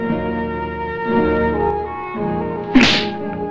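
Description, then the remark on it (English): A single sharp, loud slap as Consuelo slaps Antonio across the face cracks out near the end, standing out against a steady backdrop of sustained, droning musical tones. No one speaks. “She pulls away, and her face hardens, and she slaps him.”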